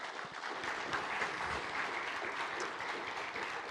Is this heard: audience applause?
yes